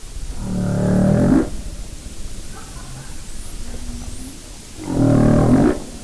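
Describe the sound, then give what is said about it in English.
Two long, low, moaning calls from a humpback whale, each lasting about a second, separated by a quieter pause with faint higher rising whistles, eerie and resonant. “And literally three people in the restaurant said, "Humpback whale."”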